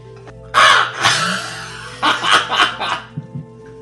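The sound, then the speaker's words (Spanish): A person imitates a crow, letting out several loud, harsh, raspy caws, two drawn-out calls followed by a quicker run of shorter ones, with no other sounds around them. “Queridos oyentes, permitidme que os salude como un cuervo.”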